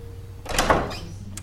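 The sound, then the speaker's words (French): A door swings open slowly and hesitantly with a soft creak and a brief scrape, followed by a faint click near the end. “La porte s'ouvrit avec hésitation.”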